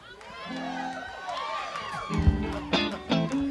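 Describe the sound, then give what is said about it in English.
A lively crowd at a live show being recorded for radio station Q102 cheers and whoops, many voices rising and overlapping, with louder bursts of shouting toward the end. “And, when you hear the applause, that means your hands will be going out on that record.”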